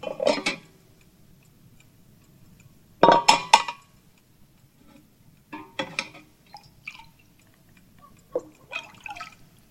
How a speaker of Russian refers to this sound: Налей ему еще. Я только капельку, я больше не буду.